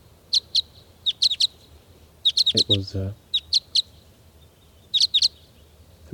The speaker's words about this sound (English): It's 7:59 a.m. and the birds are really getting excited here.